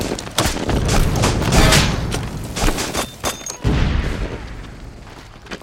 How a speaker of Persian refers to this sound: پنجم شش، ما اینجا زخمی داریم، خطم خمپاره بارونه، هنوز خبری از نفرات نیست.